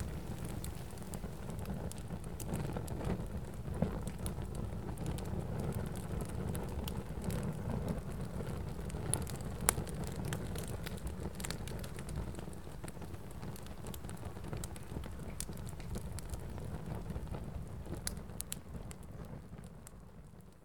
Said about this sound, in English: This fire, this minuscule version of a solar flare, was a tiny reminder of the energy of the sun. And its crackle, a reminder of the message of the aurora.